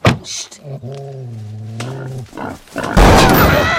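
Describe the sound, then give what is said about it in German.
A young wild boar named Blümchen, taken into a car, grunts in short bursts, lets out a long, low, wavering squeal, then breaks into a loud, harsh, raspy squeal at the end. “Hast du etwa den Frischling mit ins Auto genommen?”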